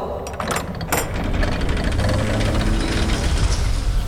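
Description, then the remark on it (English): Heavy gears grind and creak somewhere inside a fortress with a low, steady mechanical rumble, broken early on by a few sharp ratcheting clicks as the fortress's great rust-covered door slowly swings open. “Gears creaked somewhere in the bowels of the fortress as the door swung slowly open.”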